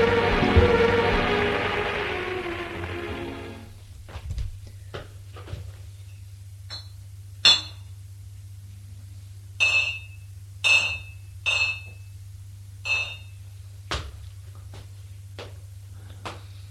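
A brief rushing, scraping noise gives way to scattered sharp knocks and a run of bright, ringing clinks as glasses tap together, over a steady low hum with no talking.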